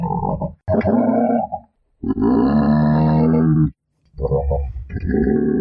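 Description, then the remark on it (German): A person imitates a giraffe's call with three loud, low, guttural grunting bursts, the middle one long and sustained with rough harmonic tone, separated by brief pauses. “Und was für Geräusche machen die?”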